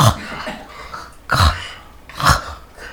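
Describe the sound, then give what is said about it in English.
A voice makes rough, guttural throat-clearing-like sounds from the back of the throat, two strong raspy bursts after a softer start, fairly loud with no talking; a speech sound not used in English, demonstrated for learners to try. “I want you to try a little bit to say that, like, feel that in the back, almost like you're kind of trying to clear your throat.”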